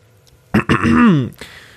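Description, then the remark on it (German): Someone clears their throat once before reading a text aloud, a short rough burst followed by a voiced, descending rumble, with quiet room tone before and after. “Ich räuspere mich, trinke einen Schluck Whisky und fange an.”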